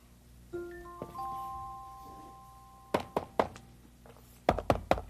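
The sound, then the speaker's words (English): Sharp knocks on a box of wooden beads in a kitchen come in two quick bursts, three raps and then four, after a brief sustained ringing tone near the start. No one speaks. “Knock, knock. Went to the box of wooden beads.”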